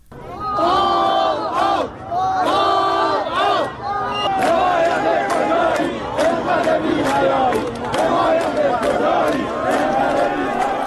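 Hundreds of protesters in front of the Chaharmahal and Bakhtiari governorate in Shahrekord, Iran, on a Tuesday, protesting a water shortage, chant slogans including "death to Raisi" in unison. Voices rise and fall in repeated rhythmic phrases, with scattered shouts and cries over a loud, continuous roar of many people.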